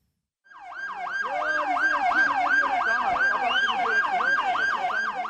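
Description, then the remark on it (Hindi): An ambulance siren wails loudly at the scene of a vehicle bomb explosion in Ankara, Turkey, taking the injured to hospital, its rapid rising-and-falling yelp repeating steadily for several seconds over faint background noise, with no talking. “लोगों के चीखने चिल्लाने की आवाजें, घायलों को अस्पताल ले जाती एम्बुलेंस और सड़क पर लाशों का ढेर।”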